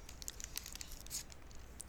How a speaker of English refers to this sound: Is it, well, that's a lot of noise. Is that both wrapper and crunching noise? Yes.